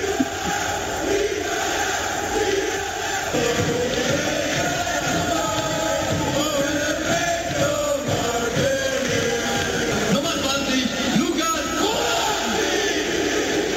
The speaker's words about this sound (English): That last one, that's the announcer saying the name of the German goal scorer and the entire crowd of 70,000 people shouting his last name in unison. I still get chills.